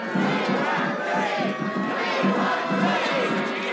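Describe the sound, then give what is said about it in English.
A large crowd of mourners riots in the rain outside a funeral parlor on Broadway, roaring and shouting in a dense, continuous din, many voices yelling over one another with agitated, surging intensity, loud throughout. “Rain is falling, but instead of cooling things off, the crowd explodes into a riot.”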